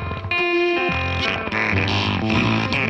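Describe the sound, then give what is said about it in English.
Guitar played through a fart effect pedal: loud, buzzy, heavily distorted notes that smear and overlap into a messy, sputtering drone for three seconds, with no voices. “You guys don't like the fart pedal?”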